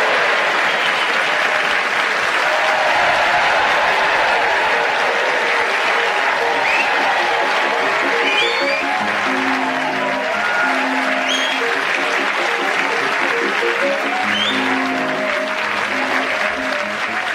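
Sustained applause from a large theatre audience at the Watford Palace Theatre, a dense, steady wash of clapping that stays loud throughout, with a few faint whoops and cheers rising above it.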